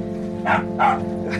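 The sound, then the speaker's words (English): A dog barks twice in quick succession, followed by a fainter third yap, over a steady low mechanical rumble in the background. “Savage by a dog.”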